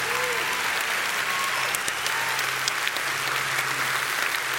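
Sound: audience applauding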